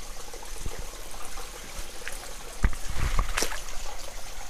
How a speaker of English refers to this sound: About 3 meters away from the TS26. A little river stream on the canyon, light possibly, or say about a meter above the water.